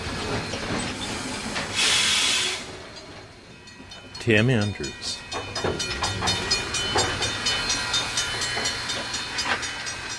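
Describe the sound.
A steam locomotive lets out a loud, sharp hiss of steam, followed by clanking, creaking metallic tones from its articulating metal panels and rhythmic huffing, with a person briefly speaking over it.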